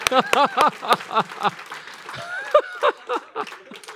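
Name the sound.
audience clapping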